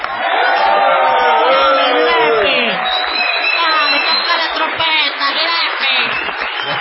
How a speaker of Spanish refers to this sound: No menos salvaje ha de ser la ovación tributada al artista antes llamado Gillespie.